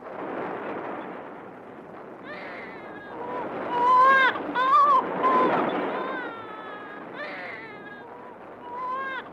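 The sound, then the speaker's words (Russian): A nursing infant held by a woman cries loudly in long, wavering wails that rise and fall, in the basement of a building in Stalingrad under wartime shelling, with a dense rumbling noise underneath throughout. “Ребенок так громко кричал, казалось, что он просто своим криком таким заявлял протест против этой войны.”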